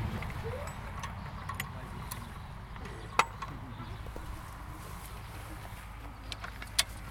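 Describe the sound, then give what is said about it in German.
A horse's pulling trace is hitched to a wooden swingletree, a wooden beam that attaches to the implement the horse pulls: a few scattered, sharp metallic clicks and knocks, two standing out clearly, over a steady low outdoor rumble. “So, mit dem Zugstrang hänge ich jetzt hier an das sogenannte Ortscheid.”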